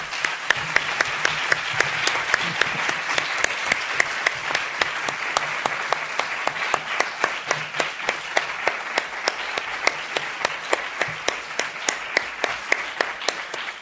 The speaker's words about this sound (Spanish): Bueno, os voy a pedir un aplauso para despedir